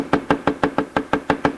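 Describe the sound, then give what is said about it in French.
A woman knocks on the wooden door of a fisherman's cabin: a rapid, steady run of about nine sharp knocks, evenly spaced and fairly loud, with no voices. “Frappe à la porte.”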